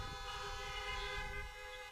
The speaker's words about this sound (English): So y'all doing all right? If you're doing all right, let me hear a honk.